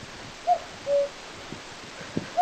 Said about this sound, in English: For centuries, the song of the cuckoo formed the backdrop to life right across rural Ireland. And though it remains a reasonably common feature in some parts of the country, it is now heard by fewer people than ever before.